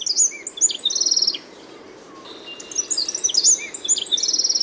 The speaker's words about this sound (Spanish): Las voces aflautadas del saltapared cejas canela repercuten en el bosque.